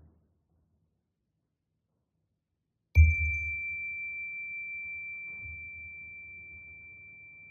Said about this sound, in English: Let us follow the sound of the chime into the silence.